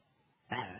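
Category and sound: animal, dog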